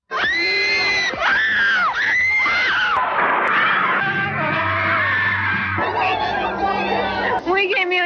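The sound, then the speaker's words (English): A dense crowd of fans screams continuously at high pitch around John Lennon at an airport, shrill overlapping shrieks and yells, loud, with chatter and a low rumble of voices beneath, sustained throughout. “No, he shouts above the crowd, it's crazy. What does it all sound like?”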